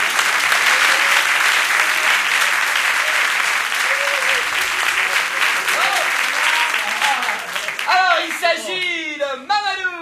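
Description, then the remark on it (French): A crowd applauds loudly and steadily for several seconds as a man whose number was drawn is called up to come forward, a dense wash of clapping with a few cheers or calls, fading as a voice begins talking near the end. “Oui monsieur, approchez-vous, on vous applaudit très fort.”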